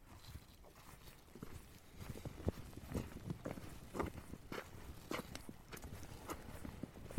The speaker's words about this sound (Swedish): Så här ska jag nu klappa på en tall. Med min handskbeklädda pollenhand.